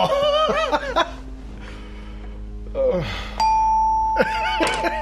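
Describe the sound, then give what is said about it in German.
A bright mallet-struck xylophone note rings out once and sustains for over a second, with people talking and laughing before and over it. “Ist ja gar kein Glockenspiel. Doch? Nee, das ist ein Xylophon.”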